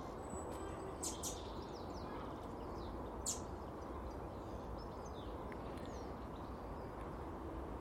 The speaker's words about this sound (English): There's loads of birds chasing birds this morning. I say chasing, I mean trying to attract.